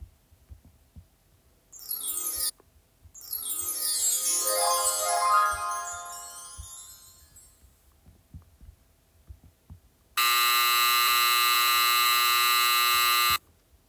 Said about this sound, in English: There are two different sounds played there, a soft chime and a loud buzzer.